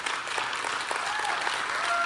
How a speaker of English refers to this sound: You can clap louder than that.